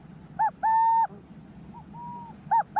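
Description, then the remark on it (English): A resident male owl's two-note territorial call, given at his burrow against an intruding male, repeats, each time a short note followed by a longer held one, clear. A fainter pair sounds between them. “So he'll arrive, and the first thing he does is give an alarm call, and then a cuckoo, cuckoo.”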